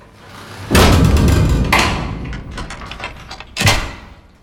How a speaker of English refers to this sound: Mackie sprints away and Tony calmly pulls the gate shut. He shuts the front door.